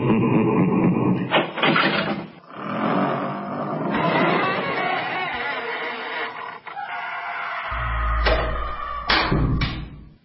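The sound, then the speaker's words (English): A heavy dungeon door grinds and creaks for several seconds as it is shoved shut, then lands with deep, booming thuds near the end, loud with no voices. “grab that dungeon door and let's just shove her in.”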